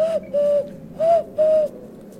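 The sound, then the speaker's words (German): A voice imitates an owl as a secret signal, giving four soft, steady hoots in two pairs, clear with no talking around them. “Ganz heimlich die Eule machen, hier so.”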